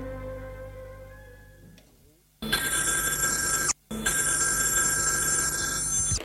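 A loud telephone bell rings in a police commissioner's office in two bursts, a long ring, a brief gap, then another long ring, harsh and metallic, following a quieter stretch with faint tones.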